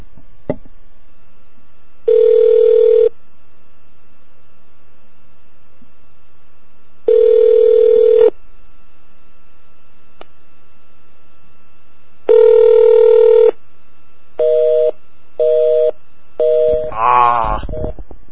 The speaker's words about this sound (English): So we've got great Spanish on one phone number, and we get a busy signal on the other.